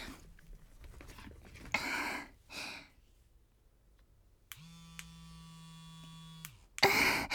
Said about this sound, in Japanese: 聞こえたかな、この音。私、クリトリスが弱くて。で、また、クリトリスも攻めてくれる電動バイブ持ってるんだけど、今日は特別に、これをあなたの前で使おうかなって思って。